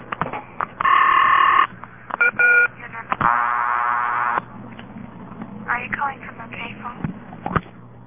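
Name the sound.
telephone dialing tones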